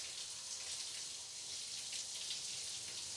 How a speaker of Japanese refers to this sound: じゃあ、お腹の方へシャワーを上げていくよ。そして、胸の方を濡らしていく。